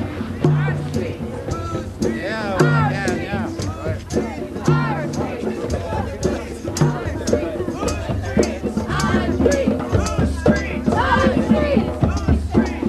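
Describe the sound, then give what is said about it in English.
A large protest crowd, gathered outdoors in front of the Willimantic Police Department after marching around a few blocks, many voices overlapping in a steady babble of chatter and calls, with no single speaker standing out, continuing at even loudness throughout. “Crowd has marched around a few blocks and has assembled in front of the Willimantic Police Department.”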